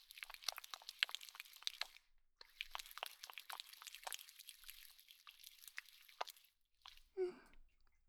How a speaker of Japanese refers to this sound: 最初は頭から洗っていくよ。シャンプーを手に取って、両手でよーく泡立てていくね。